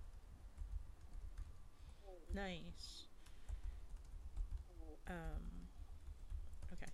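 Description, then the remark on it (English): Quiet, steady typing on a computer keyboard, a soft continuous patter of key clicks in the background, with two short bursts of a voice rising above it. “Typing.”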